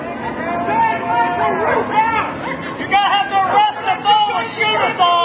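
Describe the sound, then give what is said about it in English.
A dense crowd of protesters moves forward toward a barrier, many voices chattering and calling out at once in a loud, continuous babble, with occasional raised shouts rising above the hubbub. “The crowd is now moving forward toward the barrier.”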